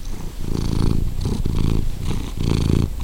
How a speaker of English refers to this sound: I mean, they'll get in my lap and he'll love me and get in my shoulder and just purr and fall asleep.